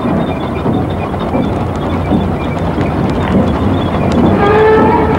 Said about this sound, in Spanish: Atrincherados entre los escombros, esperan la aparición de la tropa alemana, el chirrido de cuyos carros ya les llega intenso.